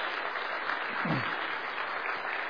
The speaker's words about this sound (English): Wow. You got applause out of that.